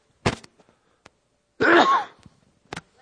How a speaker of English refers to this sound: Okay. I'm going to sneeze. Excuse me.